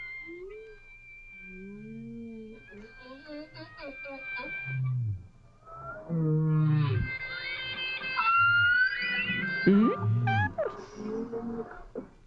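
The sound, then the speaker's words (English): Whale song of swooping moans, upward whoops and squeaky chirps, steady, with long held tones drifting underneath and growing busier and louder halfway through. “I like how your song, too, changes in response to the whale.”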